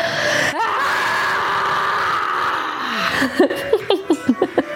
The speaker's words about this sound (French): Ok, donc je compte jusqu'à 3, on inspire et on crie comme on veut. 1, 2, 3.